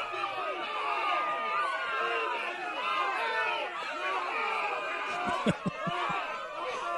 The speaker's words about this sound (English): This is terrified crowd. Yeah. I hear people coughing in the background. Yeah. Terrified crowd. That was terrified crowd. That was more like confused and a little angry. Yeah. More than terrified, in my opinion.